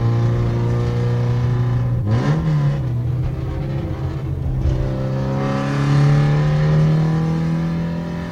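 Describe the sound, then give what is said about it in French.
A car engine hums steadily at moderate revs, briefly rising and dipping before settling into a smooth, gradual acceleration, heard from inside the vehicle with no talking, as the car is driven slowly through a built-up area. “On va relativement doucement parce qu'on est encore à l'agglomération, on ne peut pas aller trop vite.”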